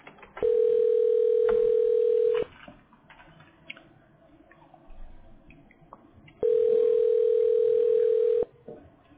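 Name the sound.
phone call ringing tone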